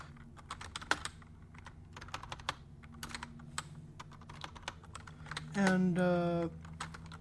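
Quick, irregular clicking of computer keys being typed, a steady patter of sharp taps throughout, interrupted near the end by a short voiced hum from someone.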